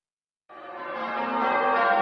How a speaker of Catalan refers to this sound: Sonen campanes.